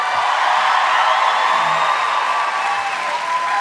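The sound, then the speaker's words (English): Sustained audience applause welcoming two guests, one of them actor Bradley Whitford; a dense, steady wash of many hands clapping at once, loud and even throughout with no voices rising above it. “Let's please give a big round of applause to both of them.”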